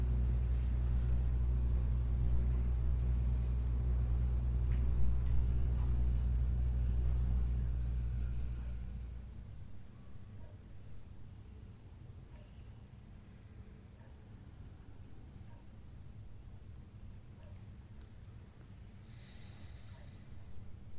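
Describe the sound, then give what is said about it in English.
A steady, droning air conditioner hum with a low rumble fills the first nine seconds, then winds down and cuts off, leaving a quiet, faintly hissing room. “As the hum of the AC turns off, also let the tension in your body melt away.”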